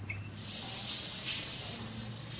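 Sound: shower water spraying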